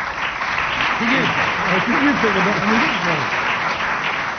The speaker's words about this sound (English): Tumultuous applause there for.